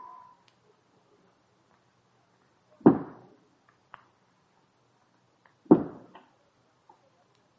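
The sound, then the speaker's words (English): Two loud, hollow knocks sound about three seconds apart during a séance, given in reply, where two raps mean yes. Each knock has a short decaying thud, set against near silence with a few faint ticks in between. “Two raps, yes. Three, no.”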